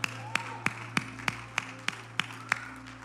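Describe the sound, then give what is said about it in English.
Steady, evenly spaced hand claps, about nine sharp hits at a brisk beat, over a low constant hum, as a church audience at a Small Group Sunday service is urged to give the Lord a shout of praise and a hand clap. No shouting or voices come through, just the lone rhythmic clapping. “Somebody give the Lord a shout of praise right now.”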